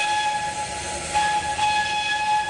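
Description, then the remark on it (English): A historic rail car train, the Little Prince, rumbles along with a broad, steady roar while a sustained, high whistle tone holds over it for the whole stretch, swelling slightly partway through. No one speaks. “Join us on this historic rail car ride down the Little Prince's journey through time.”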